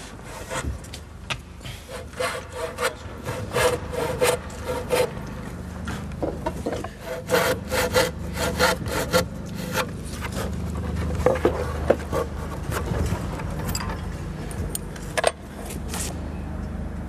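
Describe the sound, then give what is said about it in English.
Wood being sawn by hand, a long series of rough, rasping strokes in an uneven rhythm, fairly loud over a steady low rumble, with no one speaking. “all you hear is silence broken by occasional sounds of wood being sawn, yes. Nails being hammered.”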